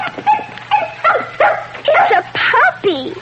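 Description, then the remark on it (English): A little white puppy, just opened from a box as a Christmas gift, yips and whimpers in a rapid string of about seven high, squeaky cries, fairly loud, with a faint low hum underneath. “A little white puppy.”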